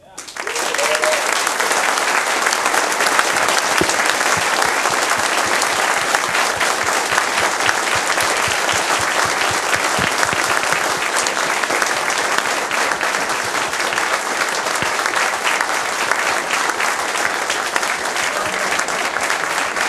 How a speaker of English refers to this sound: So, I would like to have a huge round of applause for all the local team.